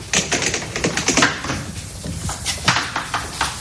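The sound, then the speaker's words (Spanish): A white cane taps repeatedly against a hard brick wall while searching for a door, a series of sharp, irregular knocks and clicks with brief scraping between them, fairly loud and without speech. “Esto es una pared. Eso es una pared, con el bastón.”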